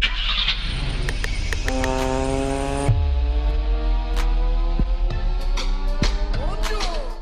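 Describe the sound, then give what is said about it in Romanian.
A car engine starts up and settles into a loud, steady running rumble with a droning, whining hum, punctuated by occasional clicks and rattles. “Acum când pornim motorul.”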